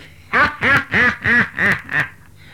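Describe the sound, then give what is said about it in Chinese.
A voice imitates a duck, giving six quick, nasal quacks in a steady rhythm, fairly loud, with no other talking during the calls. “跟脸上露出了点笑容，这种笑呢，不是真笑，假笑，叫皮笑肉不笑，脸笑心不笑，或像个鸭子叫。”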